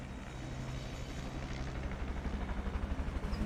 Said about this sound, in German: So, jetzt ist er da. Der Heli. Hörbar zumindest, der Heli. Seht ihr ihn? Ja, er fliegt gerade hier direkt auf uns zu, über die Wälder.